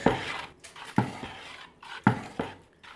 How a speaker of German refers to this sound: Eigentlich kann man sagen, das ist Glaspulver mit Wasser aufgeschlemmt. So, und das muss jetzt kräftig gerührt werden.